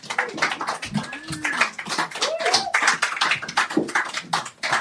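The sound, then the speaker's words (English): An audience breaks into steady, dense applause welcoming a performer on stage, many hands clapping at once for several seconds, with a few high rising whoops and cheers mixed into the crowd noise. “So give her a round of applause and welcome her on stage.”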